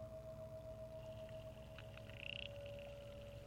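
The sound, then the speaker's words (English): Underwater ambience in the Wave Farm Pond, picked up by hydrophones at Zach Poff's Pond Station: a steady low rumble and murmur with a sustained mid-pitched hum, faint high chirps, and a brief rapid clicking burst partway through. No voices. “That's what it sounds like in the water in the Wave Farm Pond.”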